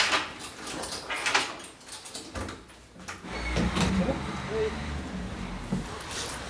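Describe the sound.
A door is closed and locked with a double turn of the key: several sharp metallic clicks and knocks spaced a second or two apart, over a low background rumble and faint voices.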